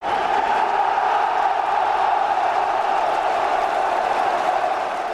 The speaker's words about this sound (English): There were loud cheers around Prague's Cinobo Stadium at the final whistle on Friday night, after the Czech Republic had come from a goal down to beat a star-studded England 2-1.